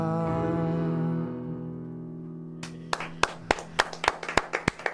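A sustained musical chord fades out, then two people in a studio clap sparsely, about ten sharp claps in an uneven rhythm, sounding thin.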